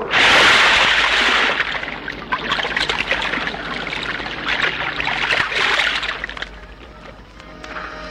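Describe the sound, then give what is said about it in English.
River water rushes and splashes loudly, a heavy surge at first, then steady churning flow broken by irregular splashes, easing off slightly toward the end. “Here is the river.”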